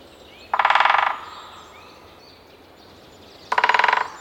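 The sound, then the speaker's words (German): A large black-and-white woodpecker sitting on a tree trunk in a forest in summer drums in two short, rapid rolls a few seconds apart, each a crisp burst of fast taps, not far away and clear over a quiet outdoor background. “Oh, da hämmert doch ein Specht, oder?”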